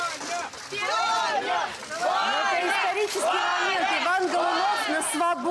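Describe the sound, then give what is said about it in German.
A crowd of about 200 to 300 supporters waiting at the door chants "Vanya", the pet name for Ivan Golunov, over and over in unison as he walks out through the metal gate, many voices rising and falling in a steady, loud rhythm with cheering blended in. “Also Sie hören die Vanya Vanya Rufe, das ist der Kosename für Ivan.”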